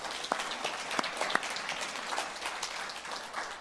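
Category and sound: crowd, audience applauding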